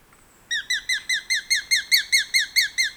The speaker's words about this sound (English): bird-catching predators, perch side by side, slender, dashing, gray and rufous hawks. The male is J-sized, just over 10 inches from the top of his head to the tip of his tail. The female, however, stands a head taller and weighs almost twice as much.